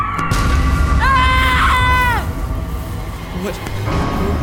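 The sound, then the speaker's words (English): A single loud, shrill, high-pitched screech rings out for just over a second, rising and then cutting off, over a constant low rumbling background. “And when he attacks, he lets out a high-pitched screech, so loud and so shrill, it makes your ears bleed.”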